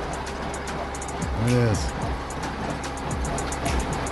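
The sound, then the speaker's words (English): A hay baler runs with a steady, low mechanical rumble and a repeating rhythmic clicking throughout, while a man speaks briefly over the machine noise. “A hay baler. It is a hay baler.”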